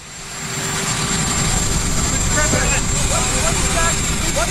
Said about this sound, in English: But it has one audio file on it, which is helicopter sound.